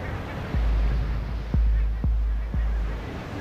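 Surf crashes against the shore below a seal colony in a steady, roaring wash, with four heavier waves breaking at irregular intervals, loud.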